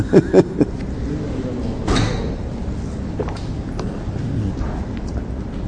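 A few quick knocks at the start, then a door is slid or swung with a brief rushing burst, set against a steady background of room noise and muffled voices.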